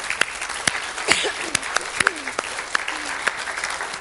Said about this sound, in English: If you prayed that this morning, man, you can applaud the Lord. That's great.